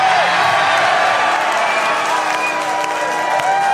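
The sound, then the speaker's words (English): A large live audience in St. Louis cheers and whoops in a loud, steady roar, with scattered clapping and excited shouts layered throughout. “Dude, this crowd is fired up.”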